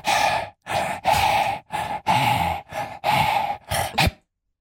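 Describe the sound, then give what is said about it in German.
A person pants rhythmically, about nine quick, breathy huffs in a row with short gaps, fairly loud, with no talking. “Du wolltest so irgendwelche Lieder hecheln.”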